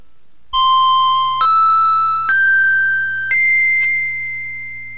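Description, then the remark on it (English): Four clear, ringing chime tones rise in pitch one after another, each sustaining and overlapping softly over a low steady hum, with no voices present. These are the opening chimes of a hypnosis session. “After you hear the opening chimes, you will enter into deep hypnosis within 30 seconds, or if you prefer, 60 seconds.”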